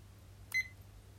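A single short electronic timer beep, bright and clear, as a timer is started, sounding once near the middle against a quiet low hum, with no talking.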